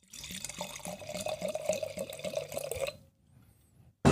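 Riesling from Weingut Mattis, from a screw-cap bottle, glugs steadily into a glass for about three seconds, with rhythmic gurgles and a rising ring as it fills, then a brief hush before a sharp clink at the end.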